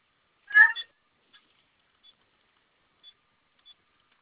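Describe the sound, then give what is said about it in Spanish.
A brief rustly burst, then a handful of short, high electronic beeps spaced irregularly as keys are pressed on an alarm keypad while a code is entered: hash three times, then asterisk and 5. The beeps are fairly faint. “Ok, vamos a ingresar tres veces gato asterisco 5.”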